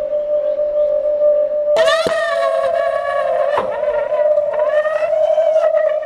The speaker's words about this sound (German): Und mit einem Affenzahn zischt die Kapsel weg und geht jetzt über die Zentralstation hoch zur Nummer 4, zur Garderobe.